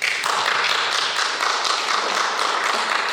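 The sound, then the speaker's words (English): An audience applauds itself steadily for about three seconds, a dense, even wash of many hands clapping at once, loud and sustained without any voices. “Would you applaud yourselves? Go on, applaud yourselves.”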